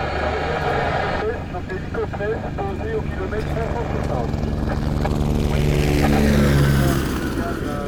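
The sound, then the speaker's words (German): Steady, loud drone of aircraft engines and helicopter rotors at the airport in Timbuktu, Mali, where rally planes and helicopters have arrived; a continuous low rumble that swells slightly toward the end, with a voice talking over it. “Wie Aliens sind sie eingefallen. In Flugzeugen, Hubschraubern und LKW voller Ersatzteile und Nachrichtentechnik, um die Bilder von der Rallye in alle Welt zu senden.”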